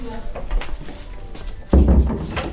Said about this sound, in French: tiens, tu fermes la porte, s'il te plaît.